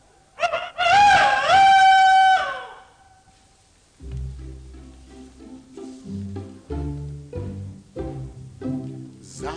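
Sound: rooster crowing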